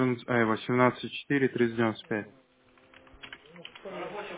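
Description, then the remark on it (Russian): A person talks briefly, then rapid clicking of keys on a computer keyboard follows as data is entered by hand, an irregular run of light taps, fairly quiet, with a voice returning near the end. “Это давай, наверное, ручками забей просто”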